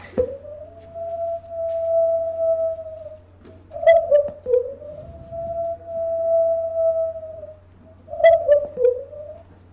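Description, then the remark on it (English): A family group howls together: long, steady, mid-pitched howls held for several seconds, broken by clusters of shorter, overlapping wavering calls as other voices join in. No one speaks. “They also do interactive howling and singing together and harmonizing as well.”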